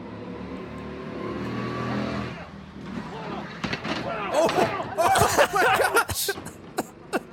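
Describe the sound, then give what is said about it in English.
A small go-kart engine drones and revs on a go-kart track, then gives way to a loud jumble of scraping, clattering impacts as the kart flips over and its driver goes flying, with a few sharp knocks at the end. “that was my main fear going on these go-kart tracks, right? All the time you're like bumping into people.”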